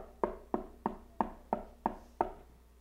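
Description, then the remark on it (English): Seven steady knocks on a door, evenly spaced about a third of a second apart, each a sharp hollow thud with a short ringing decay, fairly loud with no voices. “Can you hear His knock at the door of your heart this morning?”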